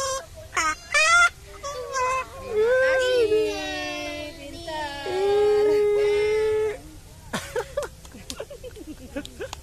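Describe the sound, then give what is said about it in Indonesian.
A cockatoo calls with a series of loud, drawn-out squawking cries. A few short chirps come before and after, with pauses between them. “Ayo, burung. Ayo. Burung.”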